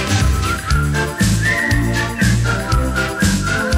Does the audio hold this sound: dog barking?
no